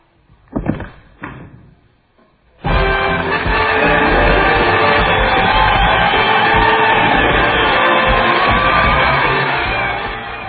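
After a couple of brief thuds, a large television studio audience, standing on their feet, suddenly bursts into loud, sustained applause mixed with cheers and whoops, holding steady for about eight seconds before easing slightly.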